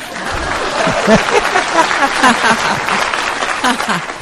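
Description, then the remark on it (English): Steady applause from a crowd fills the whole stretch, dense and fairly loud, with people's voices and cheers mixed in over the clapping. “Please clap.”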